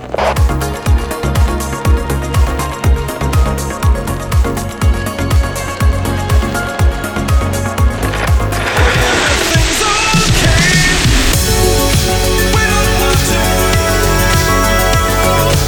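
A music track plays steadily with a regular thumping beat under sustained melodic tones; about halfway through it swells into a brighter, fuller, busier section. No one speaks.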